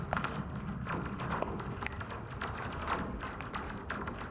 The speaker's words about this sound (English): One of my favorites is rain hitting simple wire fence, and that will sound a lot like the sound of the lasers in Star Wars, like a ping, like a sharp ping.